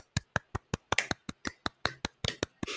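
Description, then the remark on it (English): A small round of applause: about fourteen sharp, steady claps in quick even rhythm, fairly loud, with no voices over them. “A round of applause.”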